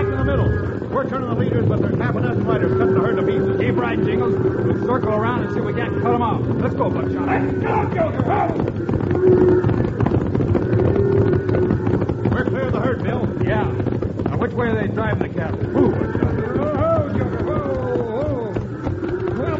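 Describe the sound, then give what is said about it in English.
A stampeding cattle herd, set off by a volley of shots, thunders past in a loud, unbroken rumble of hooves for the whole stretch, with scattered shouts or cries rising through the din, in a Wild Bill Hickok western drama. “With the trail boss Scotty, they swing their horses in front of the galloping herd, hoping to turn it before they're trampled under the thundering hooves.”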